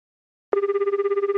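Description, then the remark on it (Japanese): After a brief silence, a telephone starts ringing with a loud electronic trill, a steady warbling tone that pulses rapidly with no voices, before an answering machine picks up, in a 20-second radio commercial for the Hyogo Prefecture automobile maintenance association. “兵庫県自動車整備振興会ラジオ CM20 秒留守番電話1年点検編。”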